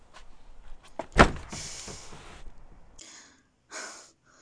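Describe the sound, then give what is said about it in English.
A door slams with a sharp, loud bang as it is shut on someone, followed by scraping and rattling as it is forced back open, then two shorter bursts of friction-like noise. “No, don't you shut the door on me.”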